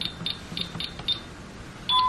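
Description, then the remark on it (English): A series of short, high-pitched beeps from a security alarm keypad as the alarm is disarmed, one per key press, followed by a longer confirming tone at the end. Fairly clear, with no talking. “Let's disarm it now.”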